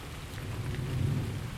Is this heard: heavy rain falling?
yes